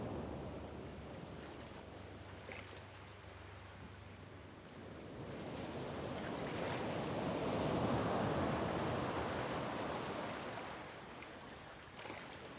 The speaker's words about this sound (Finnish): Aaltojen ääni kantautuu voimakkaana huoneeseen asti. Ne lyövät rytmiä päivin ja öin. Meren kohina on tasainen äänimatto taustalla. Aina tulee uusi aalto, varmana ja voimakkaana.